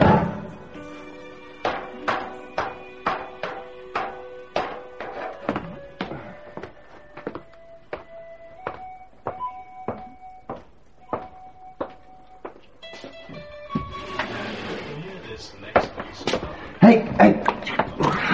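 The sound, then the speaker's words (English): Water being hand-pumped from a boat's bilges after more water has come in again: a steady series of rhythmic clunks with squeaky creaks on each stroke, quickening and getting busier toward the end. “Look, I'll have to pump the bilges out. There's more water again.”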